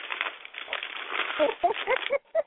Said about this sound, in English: We don't mind if we hear the pages turn, like this.